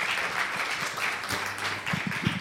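Dense, steady applause from a large audience welcoming blogger Michał Szafrański on stage, many hands clapping at once in a continuous wash of sound, with a faint voice or cheer rising under it near the end.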